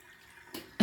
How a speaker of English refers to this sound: Let's empty out this disgusting water.